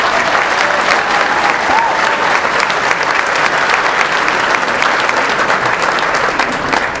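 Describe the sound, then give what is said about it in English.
A large crowd applauds state party chairman Monty Newman steadily for several seconds, a dense, loud wash of clapping that stays even throughout with no one speaking over it. “And for you, Monty, I think you deserve a round of applause.”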